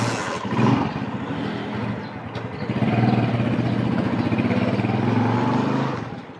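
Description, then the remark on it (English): A motorbike engine runs throughout a short ride to a narrow street on the outskirts of Karachi, Pakistan, a steady buzzing drone that picks up as the rider accelerates partway through, with road noise beneath and no voices. “Just a short motorbike ride away, I find it, on a narrow street on the outskirts of Karachi.”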